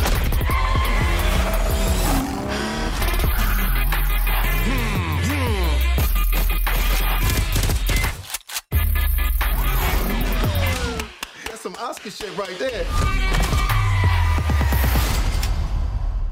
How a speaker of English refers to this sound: all had, like, car noises and gunfire, like, mixed into the track. So people could really get their heads around, oh, I see, this is like an immersive experience.